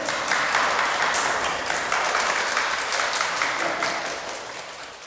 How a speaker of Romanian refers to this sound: Sâmbătă în Israel, unde clubul va participa cu 12 sportivi din partea clubului. Aplauze pentru cei 12!